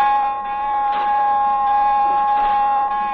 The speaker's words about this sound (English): Sound, general alarm.